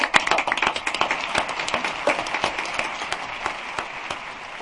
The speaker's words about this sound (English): I think another round of applause, please. Yay!